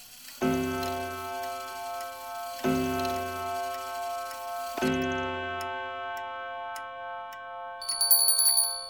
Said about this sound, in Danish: Nej, det er herren, der ringer.